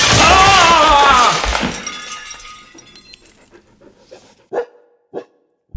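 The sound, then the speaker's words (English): A loud crash as a professor smashes through the roof of a laboratory, with shattering glass and a brief yelp, then a rattling tail of falling debris and a few scattered clinks settling into quiet. “A professor crashing through the roof of a dangerous laboratory?”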